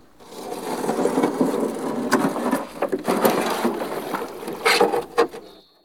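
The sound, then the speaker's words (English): Wooden creaking and knocking from a small rowing boat, with irregular clunks and strains over a steady low rumble of movement, moderately loud, no voices. “He gets into the small boat with Ferocious Fred and Dirty Duncan.”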